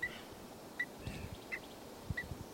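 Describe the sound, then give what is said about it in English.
A bird, individual number 384, gives four short, sharp alarm notes spaced at roughly even intervals, moderately faint over a steady outdoor background with occasional low thumps. “And that was 384 giving an alarm.”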